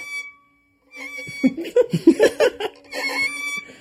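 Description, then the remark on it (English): Short, squeaky bowed violin notes slide around in a meow-like imitation of a cat, broken up by a burst of laughter before a final scratchy tone; the violin's bow has too much rosin on it. “I will learn to play it someday after I figure out how to make cat noises on it.”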